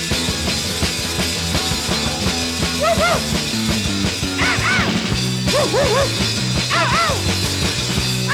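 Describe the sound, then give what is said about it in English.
A small dog, Rover, yaps in short, high bursts several times over a loud, steady punk rock band backing, the barks landing in quick clusters near the middle and end. “This one features Rover on vocals.”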